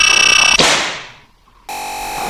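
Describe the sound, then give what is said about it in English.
A loud electronic tone in an audio game pulses rapidly, breaks into a whooshing burst that fades away, then a steady buzzy beep returns for under a second, signalling the player is in range to catch a gift. No one speaks. “That beeping sound tells you that you are in range.”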